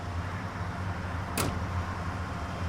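A motorist's car pulling up and stopping beside an abandoned patrol car in the snow on I-80: a steady low engine rumble holds throughout, broken once midway by a brief sharp hiss or click, with no one speaking.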